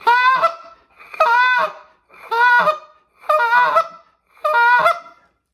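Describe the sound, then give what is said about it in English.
Five loud, nasal Canada goose honks blown on a goose call, in a steady rhythm, each about a second apart, clear with no other sounds or voices. “It's just a great nasally, nasty goose.”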